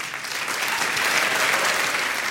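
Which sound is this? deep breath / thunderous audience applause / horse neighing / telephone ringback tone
thunderous audience applause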